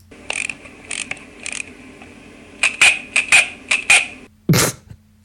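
Small mechanical clockwork whirring and rattling in short bursts: the gears of a wind-up walking toy camera that walks across a table and turns around automatically when it hits the edge, followed by a brief louder clack or rustle near the end.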